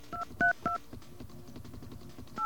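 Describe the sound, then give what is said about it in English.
Four short telephone keypad tones beep in an uneven rhythm, each a brief dual-pitched chirp, as the number on a card is dialed on a phone, heard clearly over a faint background murmur with no talking. “I'm waiting for a dial tone. Is there a dial tone there? Ah, here we go.”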